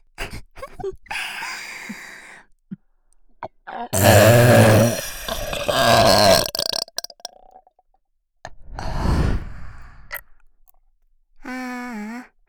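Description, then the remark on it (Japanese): A long, loud, close-up burp rumbles for a few seconds, followed by a second, shorter burp, with faint mouth clicks before and a brief voiced sound at the end. “麻薬みたいな中毒性たっぷりの 高いの 特大ゲップ出る。”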